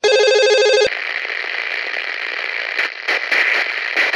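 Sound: telephone ringing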